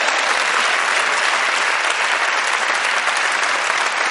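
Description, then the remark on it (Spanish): Steady audience applause fills the whole stretch, a dense, even patter of many hands clapping at a constant loud level with no voices rising above it. “Te voy a coartar yo a ti el aplauso, hombre, con lo bien que me viene.”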